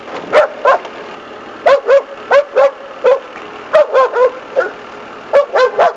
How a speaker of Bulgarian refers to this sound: Според вътрешния правилник на базата, външни хора не се допускат. Това ще ви го намекне и четирикракия пазач Рошко ето как.